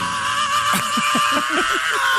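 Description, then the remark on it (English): A rock singer's scream from a CD collection of rock and roll screams, held steady for a couple of seconds over a pulsing, rhythmic band backing, loud and upfront. “This time we bring you the most outrageous screams in the history of rock and roll.”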